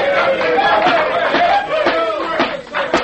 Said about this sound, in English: I sincerely hope that applause was not meant for me.